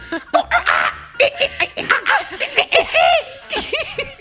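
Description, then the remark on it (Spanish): A person imitates monkey chatter with quick, high-pitched squeaky bursts and rising-falling hoots, fairly loud, in an uneven, excited stream that almost sounds like giggling. “Los monos me enseñaron este lenguaje para que me pueda comunicar.”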